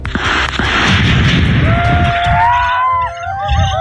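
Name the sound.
gunshots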